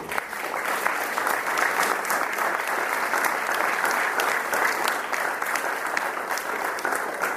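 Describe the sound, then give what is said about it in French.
An audience applauds the choir's head conductor steadily for several seconds, a dense, even wash of many hands clapping at constant loudness with no voices standing out. “Et rien que pour ça, on peut l'applaudir.”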